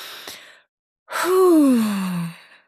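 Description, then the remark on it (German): A short airy intake of breath, a brief pause, then a long audible exhale that turns into a low, voiced sigh sliding downward in pitch, with no other sounds. “Wir atmen nochmal tief ein und aus.”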